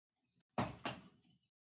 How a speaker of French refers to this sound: Mais non, là vous avez entendu quoi ? J'ai rien entendu là. C'est ta chaise qui craque, je pense. Elle ne supporte plus tes excès de kebab. Non, attends, la chaise.